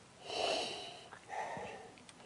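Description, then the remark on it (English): Two drawn-out sniffs as someone, nose inside the glass, inhales the aroma from a swirled glass of wine; the breaths are soft and airy with a short pause between them and no talking. “And now, as Gary Vee would say, I'm going to take a sniffy sniff.”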